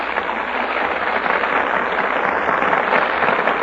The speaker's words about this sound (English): That applause is for our stars who have just taken their places before the Gulf microphone.